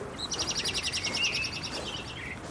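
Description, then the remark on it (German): A blackbird sings in the distance, a quick run of high, bright chirps trilling for about two seconds over a soft, steady background hiss. “Weit entfernt sang eine Amsel ihr Lied.”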